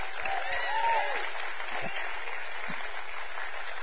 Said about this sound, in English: Would you mind just right where you're at, just to wave your hand at us and let us just give you a round of applause. Amen. Thank you for coming.